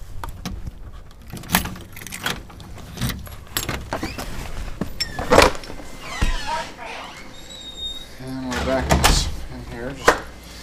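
Keys jingle and scrape in a lock, followed by a clunk as a door is unlocked and pushed open, with scattered handling clicks and rustles.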